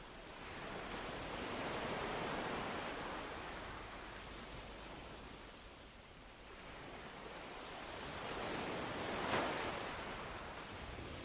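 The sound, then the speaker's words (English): Ocean surf washes in broad, slow swells, rising and falling over several seconds with a soft hissing wash, one wave cresting a bit brighter near the end. No voices, just steady rolling water. “Peace enters your body and mind softly as the rhythm of the ocean.”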